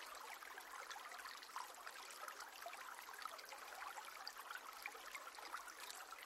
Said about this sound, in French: Le chant de la rivière ravit vos oreilles et se mêle au gazouillis joyeux des oiseaux.